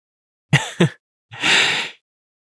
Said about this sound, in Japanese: 君のあくび、映っちゃったみたい。